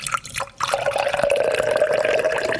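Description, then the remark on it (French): A fizzy melon drink, fermented for two days and then bottle-fermented for 24 hours after filtering, is poured into a glass: a brief clink then a steady gurgling stream whose pitch rises slightly as the glass fills; no one speaks. “Ça pétille un tout petit peu, mais...”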